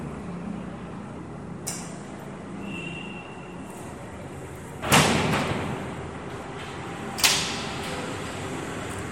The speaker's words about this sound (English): Maybe you should close the doors. Lot of sound.